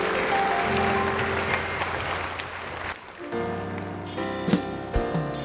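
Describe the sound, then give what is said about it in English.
An audience claps together after a prayer, in a dense, steady burst for about three seconds, then it fades as sustained musical tones take over and a voice speaks briefly. “Would you seal that to your heart with a clap?”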